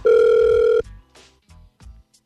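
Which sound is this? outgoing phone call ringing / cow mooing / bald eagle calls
outgoing phone call ringing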